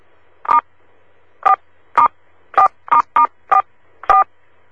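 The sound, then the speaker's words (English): A series of eight telephone keypad tones as team members press *4 on their phones to raise the gain, short clear beeps pressed at an uneven pace with brief gaps between them, heard alone against faint line hiss. “Each time when we get together, I'm going to ask, if I remember, for all of you to do that are on the actual team to hit *4 on your phone.”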